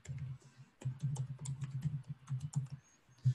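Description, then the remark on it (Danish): Rapid keyboard typing of a web link, a steady stream of crisp key clicks with brief pauses between bursts, heard on its own without any talking. “Og du kan også vælge, nu når man klikker på billedet, om man så skal enten komme til et link, hvis det er et almindeligt link ud på nettet, så skriver du simpelthen bare linket her. Og så, HTTP, sådan der.”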